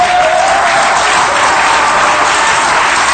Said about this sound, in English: Oh, clap your hands, oh ye people. Shout unto God with a voice of triumph. Come on, somebody. Clap your hands, oh ye people.